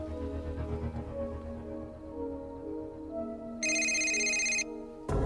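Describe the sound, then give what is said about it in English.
A cell phone rings with a bright electronic tone, one clear burst about a second long, then a second ring starts at the end, over a low, steady musical drone with no talking. “Jack rushes over from the monitor and hands Nina the cell phone.”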